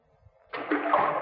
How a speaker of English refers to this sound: You see this rock? I'm going to drop it down. Now, you'll have to listen hard to hear the splash. Ready? There she goes.